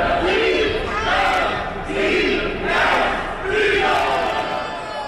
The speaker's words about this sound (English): Eagles games don't start at kickoff. They don't even start in the parking lot outside the stadium. No, they usually start somewhere underground, in the Broad Street subway, often with this chant.